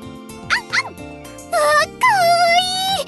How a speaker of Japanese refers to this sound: どうしたのこのワンちゃん。ママ殿のお友達が旅行に行ってる間預かることになったのでござる。ちっちゃくてかわいい。